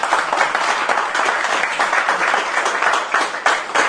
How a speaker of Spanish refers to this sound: Vamos a realizar la entrega de premios del torneo del día de la fecha, con el nombre de Visión Empresaria, a la cual desde ya estamos muy agradecidos. Vamos a pedir un fuerte aplauso para ellos.